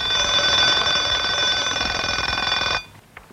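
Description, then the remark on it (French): An alarm clock rings at 2 a.m., loudly and continuously with a harsh, metallic bell rattle for nearly three seconds, then cuts off abruptly, leaving near silence. “C'est réveil à 2h du matin.”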